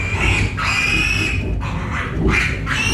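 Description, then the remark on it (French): Piglets in a farrowing pen squeal shrilly and almost without pause as they fight to reach the sow's teats, several overlapping high-pitched cries rising and falling, loud, over a low rumbling background. “Ça crie, hein?”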